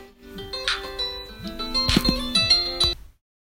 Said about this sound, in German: Ja, kleine Unterbrechung. Kam gerade noch auf dem anderen Handy ein Anruf rein, das ist ja echt verhext.